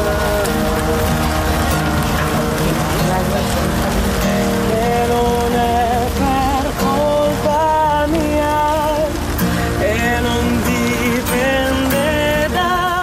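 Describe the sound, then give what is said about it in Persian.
Steady rain pours down with a dense, continuous hiss and pattering drops, while live instrumental music plays loudly through the downpour at a street music festival in Ferrara. No one speaks. “سومین فستیوال موسیقی خیابانی شهر فرارا زیر باران و با بغض‌ها و آرزوهای زیادی به پایان رسید.”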